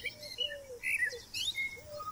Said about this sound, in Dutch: Als de muziek verdwijnt en u de vogeltjes weer hoort fluiten, kunt u de podcast op pauze drukken en uw route vervolgen tot aan de volgende stop.